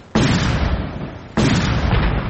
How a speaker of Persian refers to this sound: صدای انفجارهای پیهم و تیراندازی به گونه پراگنده شدت گرفت.